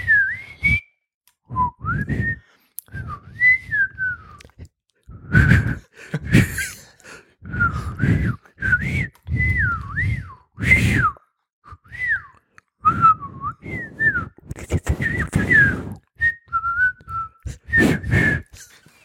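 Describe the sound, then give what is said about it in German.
A person whistles in quick, speech-like phrases, reenacting a whistled language, the pitch sliding and swooping like spoken syllables, with sharp breaths and short pauses between bursts and no talking. “Er sagte, also er pfiff.”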